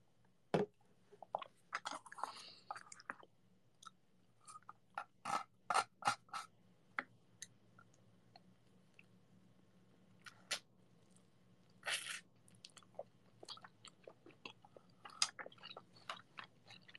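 Wet chewing sounds of someone eating food, with irregular crunches and smacks, repeating unevenly over several seconds with brief pauses, and no talking.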